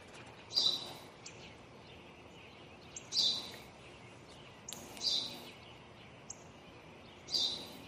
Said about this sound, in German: Was ist das? Ein Spatz. Was ist das? Das habe ich dir doch gerade gesagt, Vater. Es ist ein Spatz.